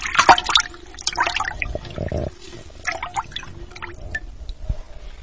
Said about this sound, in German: Die Nacht war still. Man konnte nur das Wellenplätschern hören.